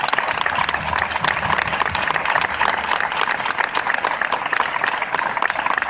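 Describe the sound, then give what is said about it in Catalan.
A crowd in Roquetes applauds the Taller Avall workshop for restoring the town's giants, many hands producing a dense, even patter of applause that holds at a fairly loud level for several seconds without a break or any voices. “Sí que voldria fer una salutació molt especial, en aquest cas, al taller Avall, que aquí els tenim representats, i aquí demano el primer aplaudiment perquè, com podeu veure, hem fet una feina espectacular.”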